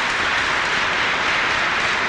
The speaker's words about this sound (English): At several points, you hear raucous applause, clearly from the Nation of Islam members, based on the point that Malcolm X makes.